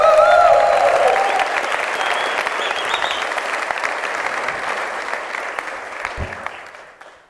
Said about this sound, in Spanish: Señoras, señores, extendemos el aplauso para recibir en este escenario a la trompeta de ….